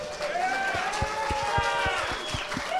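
A crowd applauds steadily for a contestant joining Team Tangerine, a dense wash of clapping with whoops and cheers rising over it and a few dull low thumps underneath, holding the same level throughout.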